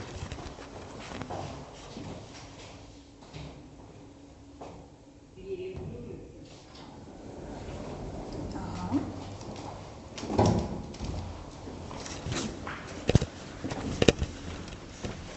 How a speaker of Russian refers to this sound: Да, лифт. Видишь, пока все не заехали, тут такая защитная. Деревяшечка стоит.